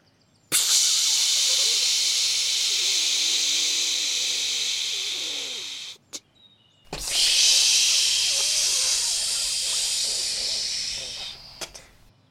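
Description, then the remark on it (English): A voice imitates a train hissing at the station: two long, steady breathy hisses, each about five seconds, separated by a brief pause. The sound is loud and bright, with no other talking. “First, let's make the sound of the train as it hisses in the station.”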